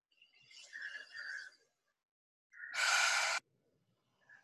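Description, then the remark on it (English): Slow, deep breathing during a guided relaxation exercise, drawing the breath down into the hips: a long airy inhale, a short pause, then a loud, forceful exhale like a heavy sigh, with quiet in between and no talking. “So I'm actually really feeling my hips as I'm breathing.”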